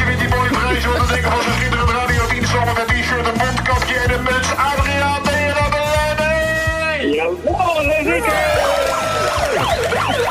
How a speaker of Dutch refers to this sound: Ja, zet die toeter uit.